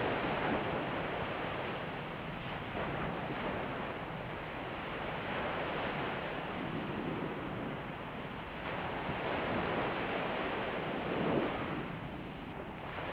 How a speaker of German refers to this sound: Heute Morgen bin ich mit dem leisen Rauschen der Wellen vom Meer her aufgewacht, in meinem Haus direkt am Strand.